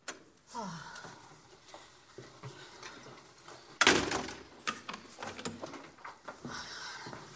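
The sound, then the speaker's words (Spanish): A door is pushed shut with a sharp, solid thud near the middle, followed by faint shuffling and rustling movement, as a woman in an elegant apartment closes the door after letting a man in and they embrace. “Deja pasar a Jorge, cierra la puerta y se abrazan.”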